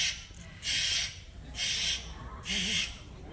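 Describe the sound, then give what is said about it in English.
A small parrot named Pogo screams three times in harsh, shrill bursts, each about a third of a second long and evenly spaced. The calls are loud, with no talking in between. “You wouldn't believe how loud even a little parrot like this can scream.”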